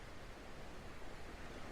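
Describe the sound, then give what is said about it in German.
A steady, soft wash of ocean surf, a continuous hiss and rumble at an even level with no distinct breaking waves, heard alone with no voices. “Die Welle kommt und sie geht.”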